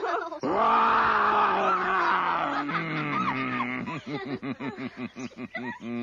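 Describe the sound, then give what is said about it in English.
A man's voice imitates a lion's roar: one long, loud, growling bellow lasting a few seconds, then trailing into a series of rhythmic, panting grunts, prominent with no other sounds. “I feel I'm going to roar. You'd better put your fingers in your ears.”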